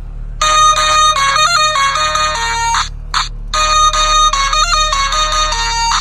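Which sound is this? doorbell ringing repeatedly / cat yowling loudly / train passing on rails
doorbell ringing repeatedly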